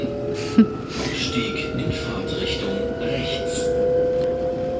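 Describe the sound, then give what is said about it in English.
Steady rumble and droning hum of a regional train rolling through countryside outside Frankfurt, Germany, heard from inside the carriage, with a brief clunk near the start and faint voices in the background. “We're on a train outside of Frankfurt, Germany.”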